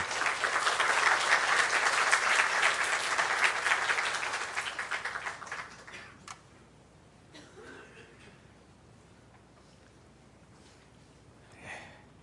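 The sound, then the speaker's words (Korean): An audience claps steadily in a loud, dense burst of applause for about six seconds, welcoming a pastor coming forward to give a special lecture, then it fades to quiet with a few faint rustles and a brief sniff near the end. “우리 같이 박수로 환영해 주시기 바랍니다.”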